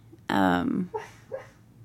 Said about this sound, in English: He's dreaming. And now he's barking and he's dreaming. And listen to our dog, y'all.